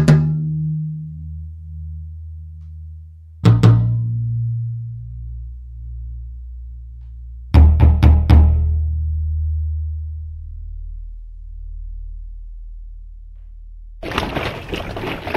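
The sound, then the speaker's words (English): Hollow, booming thumps struck on big water jugs, each ringing low and fading slowly: one hit, another, then a quick cluster of strikes, ending in a short burst of rustling noise. “And big water jugs, plastic water jugs, glass water jugs are like that.”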